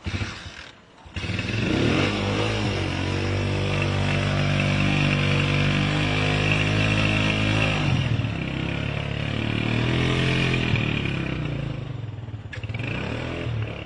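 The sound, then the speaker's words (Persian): A motorcycle engine, started in cold weather before setting off, idles with a steady throb and rises into sustained revs, its pitch sweeping up and down a few times over the whole stretch. “خب رسیدیم به موتور”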